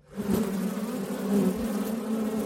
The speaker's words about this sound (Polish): Dzisiaj jest ciepło. O, właśnie mi pszczoła miodna siedzi na ręku, ale widziałem, że oblatują się oprócz pszczół miodnych już po raz pierwszy murarki rogate.